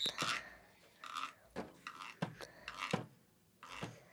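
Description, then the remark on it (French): Footsteps crunch through dry leaves as someone walks in nature, about half a dozen crisp, rustling steps at an uneven walking pace, fairly soft, with no voices. “Je me promène dans la nature. Je sens des feuilles sous mes pas.”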